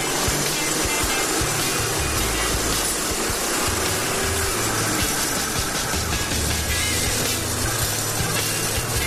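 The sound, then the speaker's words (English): Loud, steady spray of water hisses throughout, with a heavy hydraulic rim crusher, powered by a mid-1960s Ford six-cylinder van engine with a C4 transmission, grinding and rumbling underneath as it crushes a rim inside a tire. No voices are heard. “This is not so much of a tire crusher as it is a rim crusher.”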